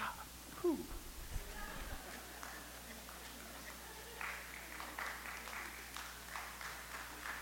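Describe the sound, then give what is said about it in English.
Soft, polite applause: a small group claps quietly and steadily for a few seconds, like a golf clap, after a brief squeak and a couple of low thumps at the start. “Golf clap.”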